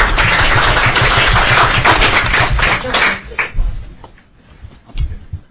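A burst of applause: many hands clapping in a dense, rapid crackle that stays loud for about three seconds, then thins into a few scattered claps before fading out.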